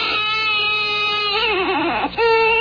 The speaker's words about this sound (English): See, it starts out as a baby and then becomes a chicken. It's a baby being turned into a chicken by a witch doctor. It's a baby being basted in some kind of sauce.